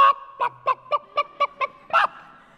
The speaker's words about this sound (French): Les uns crient « Cocorico !» Les autres gloussent, caquettent.